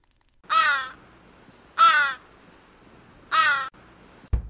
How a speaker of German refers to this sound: überlassen wir den Krähen das letzte Wort, wenn es auch nicht die Originalbesetzung aus Leipzig ist.